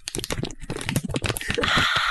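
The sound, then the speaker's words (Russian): Crackly crinkling of a packet holding an almond-cherry cookie being opened, a run of sharp rustles and snaps that swells into a steady, louder plastic rustle near the end, with no voices. “Я, естественно, тебе как подарок принесла печеньки, и я взяла одну печеньку, которую я хотела бы сейчас с тобой зашерить. У нас тут есть пакетик.”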